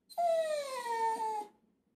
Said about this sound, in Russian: Что случилось? Почему ты начал гавкать?